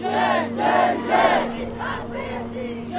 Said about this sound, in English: Days later, when a few journalists entered the camp along with the Iraqi police, crowds awaited behind a barrier.